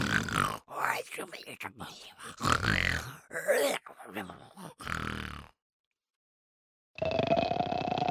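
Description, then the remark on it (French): A voice imitates a monster's snoring as it suddenly collapses, with a series of loud, rasping grunts and snorts over about five seconds, then a brief silence before a steady tonal sound begins. “Il avance vers les fillettes d'un air menaçant et s'écroule brusquement en ronflant.”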